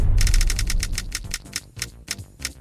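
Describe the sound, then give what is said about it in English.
Rapid, crisp clicks on a new computer keyboard chatter in a fast burst, then continue as sparser, irregular keystrokes over a low rumbling background, fairly loud. “It's a good test for my new keyboard.”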